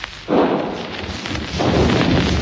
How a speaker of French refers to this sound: Dans le quartier populaire dont je vous parle, vous pouvez entendre le canon ennemi et le mousqueton français qui alternent presque sans interruption, mais la confiance et l'enthousiasme ne sont pas du côté des gros calibres.